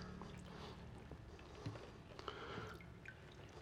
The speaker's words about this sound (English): Sorry about the little drips.